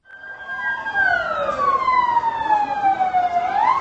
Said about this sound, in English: All through Saturday night, ambulances rushed the wounded to hospitals across Gaziantep.